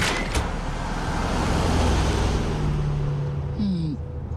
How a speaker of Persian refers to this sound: کجا داریم میریم؟ ماشین سواری.